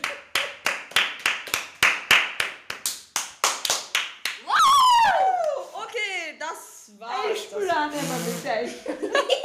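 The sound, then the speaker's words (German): Applause at the end of a quiz game, as a title is handed over: a steady run of rhythmic hand claps for about four seconds, then the clapping gives way to loud whoops, howls and laughing voices that swoop up and down in pitch. “Bitte einen Applaus”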